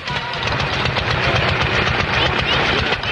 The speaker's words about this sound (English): The rhythmic explosions of the early single-cylinder gas engine were once a familiar sound pulsating across rural America.